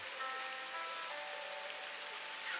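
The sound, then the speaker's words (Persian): Steady rain patters continuously on a hard surface, a dense hiss of drops with no voices, holding an even, moderate level throughout. “کاش کی یکی دل منو برده بود میون این قطره‌های بارون تو این هوا دنبالش میگشتم.”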